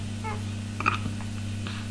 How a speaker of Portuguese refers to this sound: É o gato? Gato? Sim, senhora.